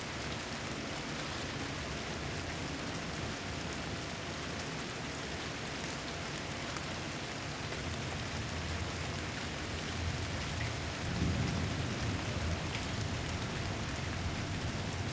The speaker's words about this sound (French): Oui, mais pour moi, si, c'est quelque chose que, voilà, sous une pluie légère, je trouve que c'est apaisant.